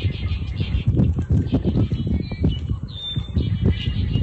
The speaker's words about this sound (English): And I should have led into this without any words attached, but he sent in some bird sounds.